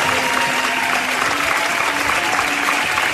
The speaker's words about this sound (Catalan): Els últims aplaudiments, que van durar moltíssim, mai havien estat d'estona a l'escenari, perquè la gent no volia que marxessin, i ells van marxar i la gent deia, no, aquí us quedeu, no marxeu encara.